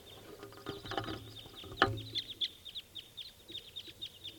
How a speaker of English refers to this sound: Recording at a little bit later in the morning on June 11th. And there's a wild crossbill here.